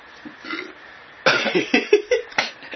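A guttural burp, from alcohol drunk just before, rolls out in a few croaky pulses over about a second and a half, following a softer low rumble, with no talking over it.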